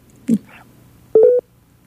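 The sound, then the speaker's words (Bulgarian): A brief click, then a short, steady electronic telephone-line tone lasting about a quarter second, fairly loud, with quiet line hiss around it and no talking, as a phone call drops. “Сега ще възстановим връзката.”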